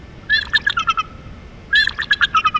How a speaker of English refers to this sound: Wait a minute. Somebody told me about those birds.